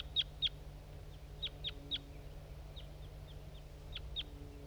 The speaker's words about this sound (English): Okay, there's some crossbills around now. Wild birds. That's a male that was singing on its way in.